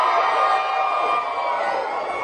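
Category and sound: crowd, crowd cheering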